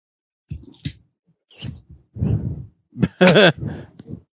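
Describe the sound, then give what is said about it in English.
Penny, a boxer dog, breathes heavily into the microphone: a series of irregular, loud, huffing puffs and snorts, with one louder wheezy, whining burst near the end. “Heavy breathing in the microphone. That's a boxer breathing.”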